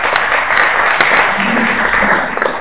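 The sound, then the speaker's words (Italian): An audience at an evening event applauds Mario Curati, vice president of the Accademia del Dialetto Milanese: a dense, even wash of many hands clapping together, loud and unbroken, tapering off only slightly at the very end. “Ci limitiamo, visto che oggi questa sera, saluto e ringrazio anche lui, abbiamo il vicepresidente dell'Accademia del Dialetto Milanese, Mario Curati, citiamo l'Accademia del Dialetto Milanese e facciamo un bel applauso anche a Mario Curati.”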